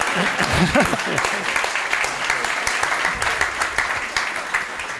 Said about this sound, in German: Ihr könnt doch gern klatschen, wenn ihr wollt.